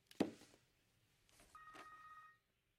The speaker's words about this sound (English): What was that? What was what? That. Your purse is ringing.